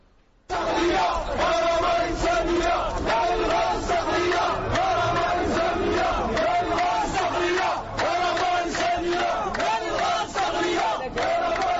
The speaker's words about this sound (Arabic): لكن رغم التطمينات، تطمينات الحكومة، مواطنون بالجنوب بدءا بمنطقة عين الصالح أطلقوا صرخات احتجاجية حملت مخاوف من استغلال الغاز الصخري جراء مخاطر تأثيراته على الصعيد البيئي والجيولوجي.